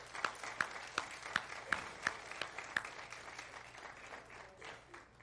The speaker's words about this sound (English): And can we give them a round of applause this morning?